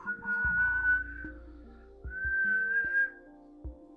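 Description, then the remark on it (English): A person whistles in imitation of a creature's call: two drawn-out, slightly rising whistled notes separated by a brief pause, clear, over a low, quiet droning background. “And it's also been known to make a whistling sound.”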